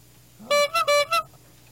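A horn honks four times in quick succession, loud, with short gaps between the blasts and no talking over them.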